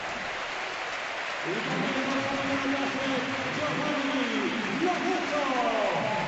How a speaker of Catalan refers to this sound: Sí, pues va haver el doble canvi del Villarreal, per canvi clar, se retira Etienne Capú, una grandíssima ovació de tot el món, i entra per ell Vicent Iborra.